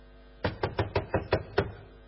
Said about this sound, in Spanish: ¿Quién es? Golpea la puerta. ¿Quién puede ser?